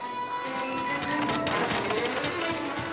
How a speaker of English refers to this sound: Opening ocean door.